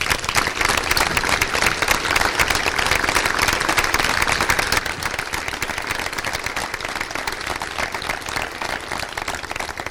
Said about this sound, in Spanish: Me gustaría que le dierais un aplauso.